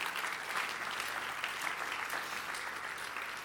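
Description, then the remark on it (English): An audience applauds a young man for taking part in a drama that morning, with steady, dense hand clapping that holds at an even level for several seconds, with no speech over it. “Give the young man a hand clap.”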